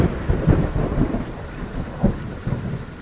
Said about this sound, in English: My experience with monsoons have always been such a marker of place for me in Phoenix. When I first moved here when I was 4, I will never forget the first like big monsoon we had. I was like terrified.